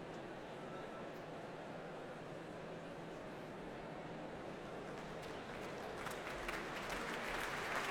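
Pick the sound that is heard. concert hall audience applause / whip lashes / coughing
concert hall audience applause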